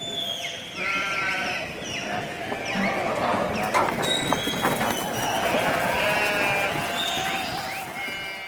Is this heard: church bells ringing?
no